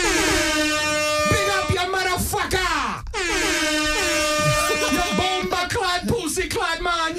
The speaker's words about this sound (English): Anyway, we gotta do some fucking air horns, man. We just talk about like air horns.